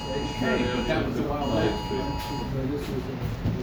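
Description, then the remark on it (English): A steady, shrill electronic phone alert tone with several high harmonics sounds for a couple of seconds and then stops, while people keep talking over it. “all the phones are going to start ringing now”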